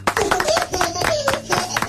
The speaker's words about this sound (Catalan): la Greta escolti això i sàpiga que hi ha quatre sapastres que estan ara mateix fent un programa de ràdio i en recordant-se de la Greta, i que aquest aplaudiment que li fem és per la Greta.